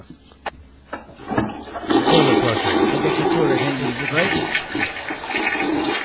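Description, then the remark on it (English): A few sharp clicks, then a toilet flush bursts into a loud rush of swirling water that keeps churning steadily without letting up. “The toilet's still flushing. It's a long toilet.”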